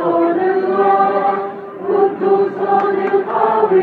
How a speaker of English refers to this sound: Palestinian Christians singing in the old city of Jerusalem on this Good Friday. The crowds are bigger than last year as coronavirus restrictions are loosening up in the Holy Land.